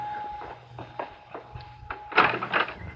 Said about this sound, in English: See who's at the door. And don't act so nervous. Well, all right, but... Open the door.